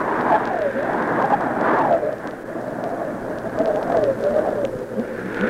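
Heavy rain pours down in a steady, dense roar that fills the whole clip, with a voice faintly audible beneath the downpour.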